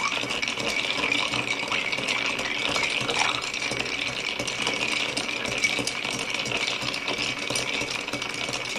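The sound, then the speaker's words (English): Steady, continuous rattling and clinking of ice swirling inside a mixing glass as a cocktail is stirred for a while to chill and dilute it, a bright, even texture that runs without pause and with no one speaking. “So we really want to make sure that we stir this for a while.”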